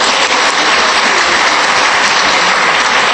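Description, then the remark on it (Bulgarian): A large audience claps steadily for Bulgarian inventors, a dense wash of many hands filling the space evenly at full volume for a few seconds, with no voices standing out. “Мисля, че са достойни за аплодисмент тези българи.”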